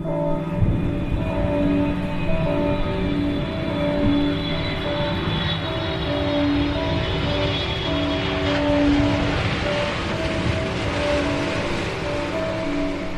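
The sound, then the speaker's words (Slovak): A steady, loud mechanical roar, like an airplane engine starting up, with a rumbling low end and sustained humming tones that barely change over about thirteen seconds. No one speaks. “No, takže ako bolo povedané už, tie kostolné zvony, potom tam je počuť také ako keby štartovanie letadla.”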